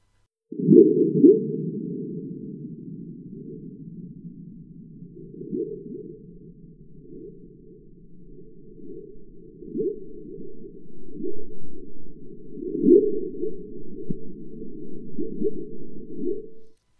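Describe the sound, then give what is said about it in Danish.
Low rumbling drone from a seismometer in the Schweizwald, Germany, recording an earthquake's surface wave running along the Earth's surface, played back 10,000 times faster than real time. Two strong whistle-like surges early on are followed by fainter, eerie whistles and pulses swelling and fading over a steady hum. No voices. “Vi hører først to kraftige fløjt, efterfulgt af nogle mere mystiske fjerne fløjt.”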